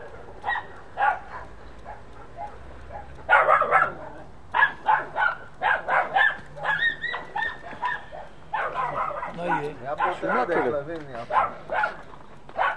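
A dog barks in quick, close bursts, breaking now and then into higher yips and whining, with short pauses between the outbursts.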